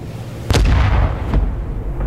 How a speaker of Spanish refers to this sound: Y empiezan a tirar la palanca hacia atrás con las dos manos. Percuta el cañón.